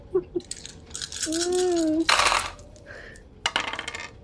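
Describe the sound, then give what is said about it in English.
Two dice are rolled onto a hard table for a game's conflict resolution roll: a few light clicks, a ringing spin as one settles, then a sharp burst of rattling tumbles before they come to rest showing a 2 and a 1. “Make a conflict resolution roll to go about this house.”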